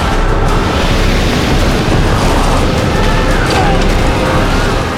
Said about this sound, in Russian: Что это? Какой-то ужасный шум! Страшный ветер! Буря поднимается!